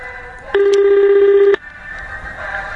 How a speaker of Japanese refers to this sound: そこで管轄の広島創価学会中心会館に電話をかけました。